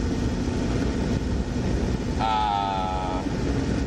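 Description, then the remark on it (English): A diesel car engine drones steadily under load while climbing a slight incline on a road, a loud, constant low rumble with broad road noise, joined partway through by a brief, bright, horn-like tone lasting about a second. “First of all, this car, being a diesel, on even a slight incline, it tends to...”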